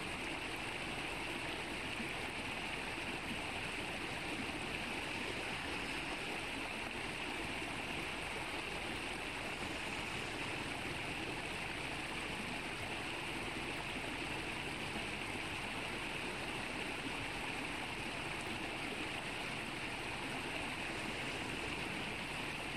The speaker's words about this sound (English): Just notice how the raging river swallows everything you throw into it, till it completely disappears.